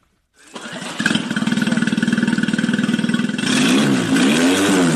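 boat engine starting up

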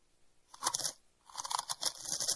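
crunching potato chips

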